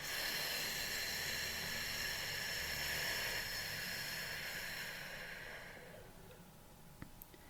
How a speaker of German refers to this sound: Also tief in den Bauch und unteren Rücken einatmen. Und dann langsam in die Flamme pusten. Wir machen das gleich zusammen. Wir atmen tief in den Bauch ein und pusten.